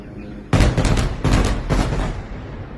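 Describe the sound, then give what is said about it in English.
A series of loud, heavy explosions in Gaza City booms in quick succession outside a home's windows, several thuds rumbling together with a deep low-end roar, sounding muffled as if heard from indoors. “Ferwana recorded the sounds of explosions she's been hearing outside her windows”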